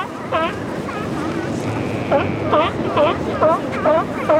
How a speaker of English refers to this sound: The belchy roar is coming from the Stellar sea lion, where the barking is coming from the California sea lions.